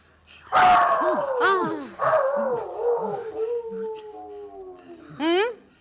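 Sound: dog howling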